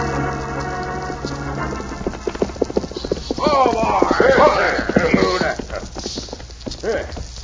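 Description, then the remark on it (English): The hooves of a horse ridden hard gallop in a fast, steady clatter of sharp beats throughout, with a sustained tone at the start and a wavering vocal sound rising over the hoofbeats midway. “it's a mighty fast ride, Badger. This horse of mine's most winded”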